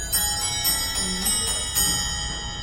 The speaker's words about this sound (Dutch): zo'n carillon, zo'n muziekje voor de klokslagen. Vandaar dat ze ook zoiets in het klein hebben gemaakt voor thuis. En dit is een reproductie, maar de echte versie die kwam uit 1598. Ik ga voor jullie aanzetten.